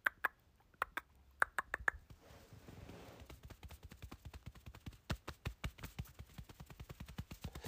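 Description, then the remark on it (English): An imitation of light rain made with sharp clicks and taps: a few scattered snaps at first, then a steady, quickening patter of soft, dry taps with no talking. “You see that? That was light rain.”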